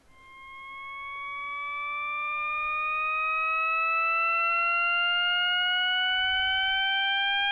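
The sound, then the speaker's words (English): A steady, layered tone glides continuously upward in pitch, several stacked harmonics climbing together in a seemingly endless rise, swelling from soft to loud and then holding, with no voices. It is the eternally rising tone auditory illusion, heard as rising continuously. “Okay, how about the eternally rising sound? I'll make that my ringtone. Many people hear the tone continuously rising and rising.”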